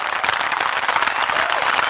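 applause sound effect

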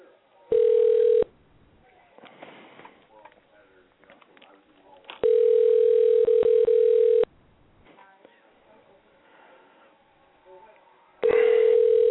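telephone dial tone

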